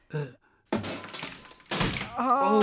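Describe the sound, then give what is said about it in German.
In a studio, Elvis the sheep uses a hammer in place of drumsticks and pounds on a wooden cupboard. The few loud, heavy thunks have a rattling, splintery edge, while a voice lets out short tonal cries at the start and end. “Und jetzt auf den Schrank.”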